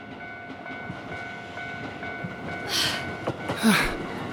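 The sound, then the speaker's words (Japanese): A train rumbles steadily at a station, with two loud hissing bursts near the end, like brakes or doors releasing air, as the last train of the night arrives and departs. No one speaks. “でも、電車来ちゃいます。”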